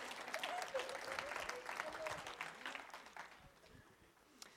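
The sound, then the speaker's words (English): An audience applauds, a dense patter of many hands clapping at once, steady before thinning out and fading toward the end, with some indistinct voices mixed in. “You can clap for that. That was good. You and I will clap.”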